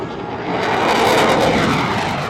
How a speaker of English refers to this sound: U.S. fighter jets roared through the air above the Seoul Aerospace and Defense Exhibition.